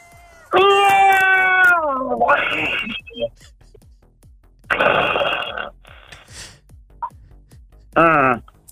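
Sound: cat meowing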